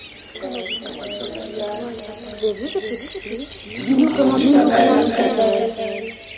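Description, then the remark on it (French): A dense chorus of dozens of red, yellow, blue and green birds perched in a large tree, chirping and twittering together, overlapping calls filling the whole stretch and swelling louder toward the end, with a low cooing murmur underneath. “Il y a un grand arbre, et sur ce grand arbre sont perchés des dizaines d'oiseaux de toutes les couleurs.”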